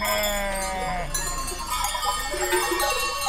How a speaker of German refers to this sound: Überall in den Gassen warten Hirten mit ihren Schafs- und Ziegenherden auf den Start der Romaria, eine Prozession rund um die kleine Dorfkirche São João Batista,